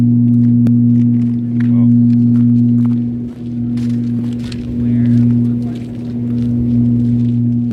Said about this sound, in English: the sound comes from the mine's ventilation system